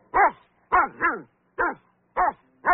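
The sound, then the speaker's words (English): A dog digging something up in a backyard barks six times in short, irregular bursts, two coming close together, each bark sharp and fairly loud with nothing else heard between them. “can you see why the dog is barking?”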